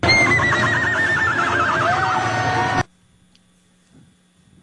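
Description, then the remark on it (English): A woman in the stands at an OU versus South Dakota game imitates a horse whinny: a loud, high-pitched neigh with a rapid wavering trill lasting about three seconds, cut off abruptly and followed by near silence. “Will you tell us if this is human or horse?”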